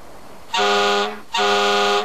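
Two loud, blaring blasts from a fire truck's air horn, each lasting about half a second with a short gap between, with no voices.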